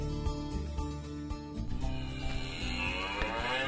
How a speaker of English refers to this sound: Yes, that was a cow you heard in the background. Of course, that's the ad for Fort Dodge Animal Health on our World Dairy Diary website. Does that every time we refresh the page